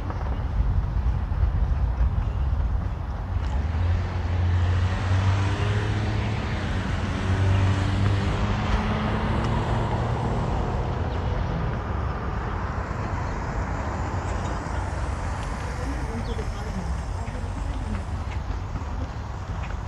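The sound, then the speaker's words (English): A continuous, heavy rumble of road traffic with many cars passing, a dense low roar that stays loud and steady throughout, with no talking. “Much vehicle, many car.”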